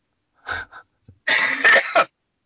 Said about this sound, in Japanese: 今回ちょっとなんか咳がひどい放送になってますけど、 はい、 ちょっと毎日ちょっと命を懸けてラジオ出てるんでね。 吐血してますからね、今ね。 そう、実はちょっとね、風邪をひいてしまいまして。